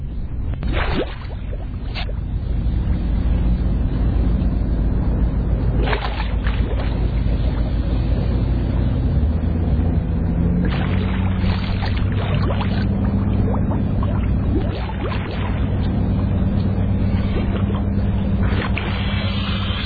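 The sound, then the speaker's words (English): A steady underwater rush of air bubbles rising from two scuba divers swimming beneath a boat, loud and continuous, with a deep rumbling wash and occasional sharper bursts of bubbling, and no voices. “you can hear the bubbles and see the bubbles as they move along.”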